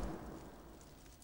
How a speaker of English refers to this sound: The roar is constant. It's very loud here. I can barely even hear myself. I think there are guys with the steam going up right out of manholes. All I hear right now is just this roaring sound. It's roaring.